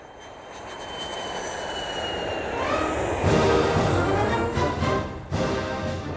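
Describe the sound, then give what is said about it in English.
A jet plane, Air Force Two, taxis down a runway in brisk Ohio air, its engines whining and roaring steadily, the high turbine tone shifting while the broad rumble swells louder, with no one speaking. “Noxious gas tainted the brisk Ohio air as the plane taxied down the runway.”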